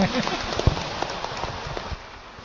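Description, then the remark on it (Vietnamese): An audience at a Buddhist gathering claps in a dense, steady patter of crackling hand claps for about two seconds before the applause quickly fades away. “Một tràng pháo tay đi, say mê quá vậy.”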